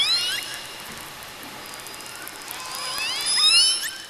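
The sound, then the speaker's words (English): Several toothed whale whistles, thin high-pitched chirps and rising sweeps that overlap in bursts near the start and end, over a steady underwater hiss with no one speaking. “Toothed whales have whistles.”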